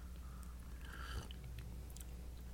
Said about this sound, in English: Tonight we're drinking it's called Gongfu Lychee Black Tea. Let's have a sip of this.